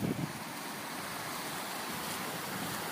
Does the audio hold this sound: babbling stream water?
yes